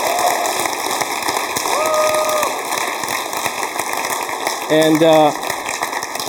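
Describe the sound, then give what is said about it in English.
A church audience at Grace Church applauds to welcome new members, in a steady, dense wash of clapping that lasts the whole stretch, with a couple of short voiced calls or cheers rising briefly over it. “So let's give them a hand.”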